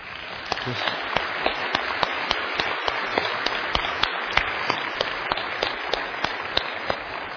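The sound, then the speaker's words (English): A church crowd applauds steadily to honor someone's good work, a dense wash of many hands clapping with sharper individual claps popping out irregularly, holding at an even, moderate level throughout without voices. “just applause for someone who's done so at such good work”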